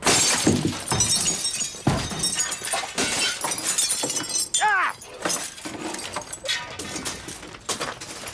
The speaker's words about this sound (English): I told you I wanted to break the big glass.